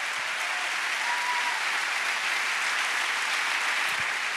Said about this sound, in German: Das ist schon ein Applaus wert. Das hat sie live und direkt gezeichnet.